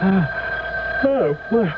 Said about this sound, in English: The phone, it's ringing. Well, what time is it? It's 3:30 in the morning. Well, who could be calling us now?